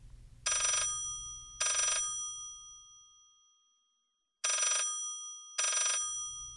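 A telephone rings in two double bursts of bright, metallic bell tones, a pause of silence between the pairs, with a low rumble underneath at the start and end.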